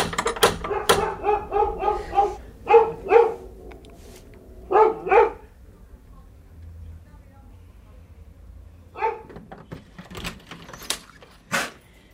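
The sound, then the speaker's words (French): A female dog barks repeatedly in quick clusters of sharp, loud yaps, following a couple of sharp knocks on a small blue front door; after a pause, a voice and a few more brief sounds follow. “Est-ce que ma chienne a envoyé parce que vous avez frappé à la porte, je pense?”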